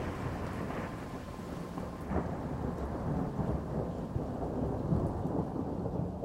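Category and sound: nature, rolling thunder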